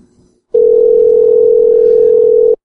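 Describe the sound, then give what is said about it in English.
A brief murmur of voice gives way to a loud, steady telephone tone holding a single unbroken pitch for about two seconds before cutting off abruptly, after the other party on the phone call hangs up. “I was hoping she'd bite right there. Oh, yeah. She hung up.”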